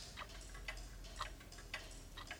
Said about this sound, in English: Wait a minute. I think there's a clock out of sync. It isn't keeping time. It isn't ticking properly. I think I hear it too.